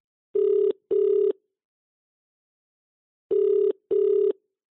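An outgoing phone ringback tone: two short buzzing rings in quick succession, a pause of about two seconds, then another double ring, clear and steady with no talking.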